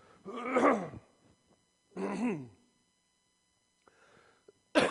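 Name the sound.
coughing and throat clearing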